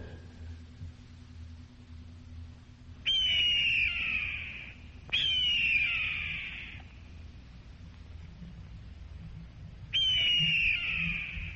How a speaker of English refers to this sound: That is the victory scream of an American eagle.